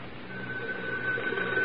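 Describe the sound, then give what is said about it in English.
A telephone rings with a steady, continuous electronic tone over a faint hiss, lasting a moment at moderate volume with no voices present, a call from Commissioner Merrick to Moran in The Green Hornet radio drama. “He should be making several phone calls right about now.”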